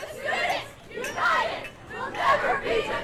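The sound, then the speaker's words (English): A protest crowd of demonstrators chants after a shooting, many voices blending into a loud, steady roar that rises and falls in repeated surges over a few seconds, with no single voice standing out. “The chants, the signs, even some of the faces in the crowd are the same as 2 years ago.”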